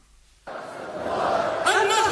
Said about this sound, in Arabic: بالعهد والقسم على حماية المسجد الأقصى المبارك، صدحت أصوات الجماهير الفلسطينية التي أمت مهرجان القدس في خطر الذي نظم في غزة